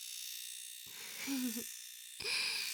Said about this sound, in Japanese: はーい、それではお次は耳の産毛を剃っていきますね。失礼します。 シェーバーの音、うるさくないですか？